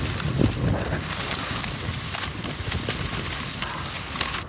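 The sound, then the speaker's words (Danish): Many very dry reeds beside a brook rustle and crackle steadily as they are touched, a dense papery scratching with scattered sharp snaps throughout, with no voices present. “Der står sådan en hel masse meget tørre siv. Jeg ved ikke, om du vil høre lyden af hende, fordi så man rører ved dem, har de simpelthen sådan en.”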